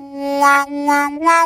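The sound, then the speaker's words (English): A musician plays a harmonica holding one steady reedy note while his hands, cupped around it with the thumbs forming a hinge, flap over it, opening the tone into three rhythmic wah-wah swells, with a slight pitch rise on the last one. “because we have this – we form this cup around the harmonica and make kind of a hinge with our thumbs.”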